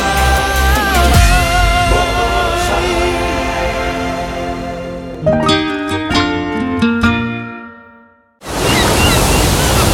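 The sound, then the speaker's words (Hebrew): A bright musical jingle plays for several seconds, stops briefly, then a loud rush of ocean waves breaking on the shore fills the last second or so. “בוא ניכנס לים. אז מים אין מציל.”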